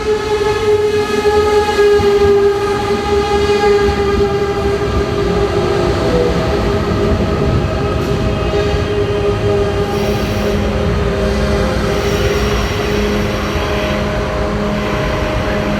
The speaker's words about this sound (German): Mensch, viel los hier. Ja, das ist auch der einzige ICE halt, glaube ich, so am Tag.